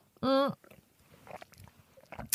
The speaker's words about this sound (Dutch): Ik nam even een slokje water. Ik ben niet aan het kwijlen.